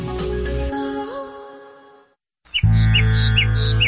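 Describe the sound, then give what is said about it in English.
Birds chirp in springtime in Calgary, quick, repeated bright tweets over a steady low hum, following a sustained tonal passage and a brief moment of silence; no one speaks. “Springtime in Calgary is when we start to see birds, flowers, and potholes.”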